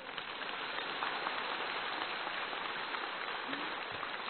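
Sustained applause from a crowd, a dense, steady crackle of many hands clapping at an even loudness for several seconds, with no voices over it.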